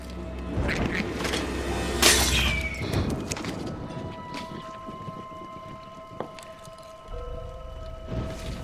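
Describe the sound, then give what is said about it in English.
A glass jar is knocked off a shelf nearby by something and shatters with a sharp crash, followed by a few smaller clinks and a faint ringing tone over low, steady background rumble. “He looks up, and something knocks a jar off a shelf nearby.”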